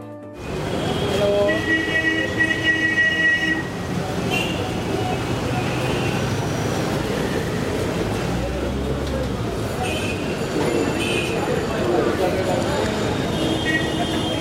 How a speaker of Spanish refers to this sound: Esto que van a escuchar es un ambiente real en Nueva Delhi, India.